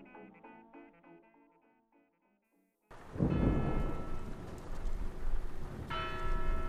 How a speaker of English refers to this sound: It's a rainy Saturday afternoon in Jackson Square.